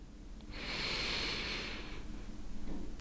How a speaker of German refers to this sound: Und damit darfst du einmal mit mir gemeinsam ganz, ganz tief einatmen.